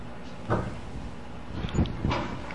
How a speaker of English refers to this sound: What's that? Another door closing. There's a lot of people closing doors tonight, huh?